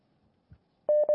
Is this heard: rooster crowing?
no